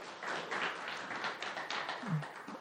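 Steady applause for a pastor from an audience, a dense wash of many hands clapping that holds at an even, fairly loud level throughout with no pauses.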